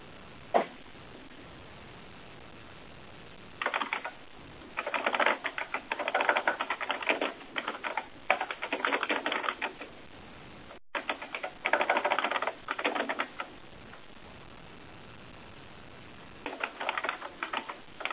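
Bursts of rapid keyboard typing, clicking away in several separate runs with short pauses between them, steady, with no one speaking.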